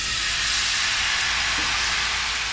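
Blood pancake batter sizzles loudly in a very hot pan, a steady, bright hiss with fine crackling that holds evenly throughout, with no voices.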